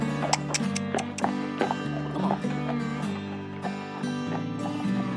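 Horse hooves clip-clop in a loose, trotting rhythm of sharp knocks, set against a steady sustained musical drone that runs underneath the whole time.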